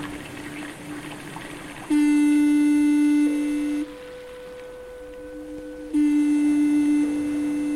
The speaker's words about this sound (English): made one dark, foggy night in 1982 on the edge of the North Sea, when a Dutch radio station coordinated an hour-long live misthorn concert, linking up transmissions from 9 foghorns along the coasts of France, Belgium, the Netherlands and Germany.